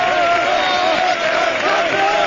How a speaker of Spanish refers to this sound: La alegría, el abrazo de Albelda, el abrazo de Carboni, de Vicente, los gritos de campeones. ¿Escuchad?